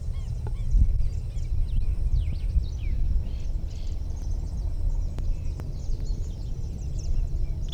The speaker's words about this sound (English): Alarm rattle of some sort, five.